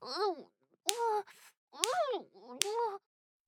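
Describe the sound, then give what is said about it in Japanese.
Three sharp slaps of a penis against a woman's cheek land at a steady pace, each one immediately followed by a drawn-out vocal moan rising and falling in pitch. “なんて男らしいチンポビンタなんでしょうか。”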